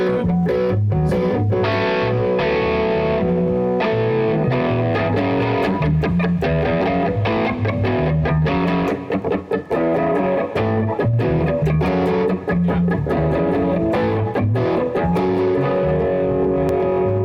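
Electric guitar with overdrive distortion plays a steady, loud, thick riff of sustained chords and rhythmic strums, continuous for the whole stretch, with no voices.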